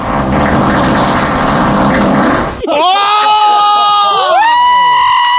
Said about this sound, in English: And then one final one, just entitled, Huge Fart.